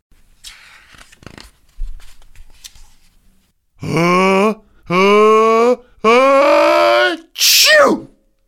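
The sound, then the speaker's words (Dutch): A voice imitates the sneeze of Bashi, a little elephant, whose nose is tickled by pollen after rolling through flowers: three loud, drawn-out rising cries building up, then a shrill, squealing burst, after a few seconds of faint rustling. “Gezondheid, kleine olifant, zei de chameleon.”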